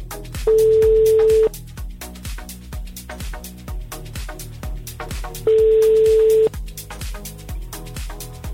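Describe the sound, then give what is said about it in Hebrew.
A phone ringback tone sounds twice, each steady beep about a second long with a pause of several seconds between, heard over rhythmic background music while a call is placed to a man turning 50 to wish him happy birthday. “בואו נתקשר בבקשה. נתקשר לבחור, נברר איך זה להיות בן 50.”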